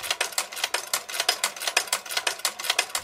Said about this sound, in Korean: 평범한 집들 사이로 작은 간판이 하나 보입니다. 야디의 옷수선 가게. 가게 문을 열고 들어가니 쉼없이 움직이는 재봉틀 소리가 반갑게 맞아줍니다.